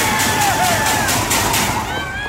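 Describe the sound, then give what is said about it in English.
A loud, dense crowd at an 11-year-old deck hockey game roars and cheers without letup, a wash of many voices with shouts and whistle-like tones rising above it, sustained at full volume throughout. “That sounds like 10,000 people in the building for 11-year-old deck hockey.”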